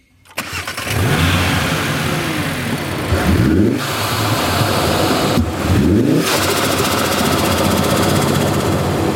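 A tuned, lowered and heavily modified 2020 Audi RS3 with an air filter as big as a watermelon fires up and settles into a loud, rough idle, then is revved twice, its roar climbing sharply and dropping back each time. No one speaks.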